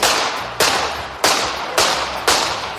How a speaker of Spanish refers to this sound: Es escalofriante escuchar los disparos, ¿eh? Uh-huh. Sobre todo sabiendo que esas balas están entrando en un cuerpo.